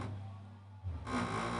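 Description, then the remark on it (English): Muffled, bass-heavy music played loudly from a car, loud enough to make windows tingle: a steady low throb, with a brighter, fuller wash of sound swelling in after about a second. No one speaks. “That the music is that loud that my windows are like tingling.”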